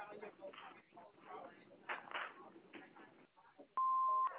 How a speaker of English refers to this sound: Thanks for calling. Please leave their phone number and a message after the beep, and we'll call you back just as soon as we can.